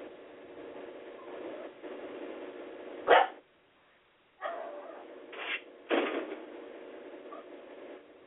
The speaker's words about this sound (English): Cowboy got that dog tied up. That's why he's barking.